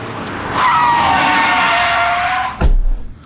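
A car's tires squeal in a long, loud skid lasting about two seconds, the high screech sliding slightly downward in pitch, then cut off by a sudden heavy thud as the car hits a woman pedestrian.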